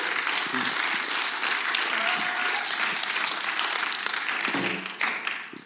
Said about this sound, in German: Ihr könnt gerne klatschen